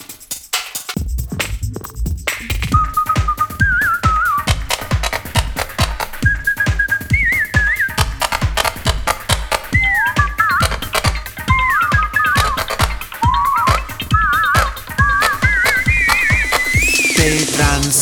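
A bright whistled melody winds up and down over a steady, pounding electronic beat, the tune loud, with phrases repeating and rising toward the end.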